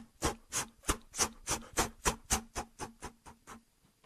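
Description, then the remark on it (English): A voice imitates a bird taking off: about a dozen breathy, raspy flapping bursts in a steady, quick rhythm, gradually growing fainter toward the end, with no talking. “You know, that bird taking off.”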